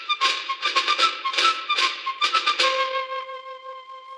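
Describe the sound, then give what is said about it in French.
A short, lively tune on a high fife, quick bright notes in a bouncing rhythm that end on a long held tone, clear with no voices; the refrain of a regiment's young fife player, signalling to turn the page of a picture book. “Chaque fois que vous devrez tourner la page de votre livre d'images, il le fera en sifflant à sa façon ce refrain.”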